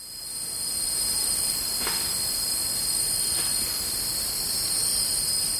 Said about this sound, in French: Nous sommes en Indonésie avec cette fois le grésillement d'insectes et les pépiments d'oiseaux captés par un troisième chercheur, Kevin Darras.